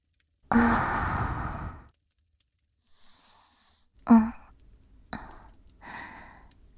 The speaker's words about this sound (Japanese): 主、お耳に吐息がかかるのがお好きですか？もっといたしましょうか？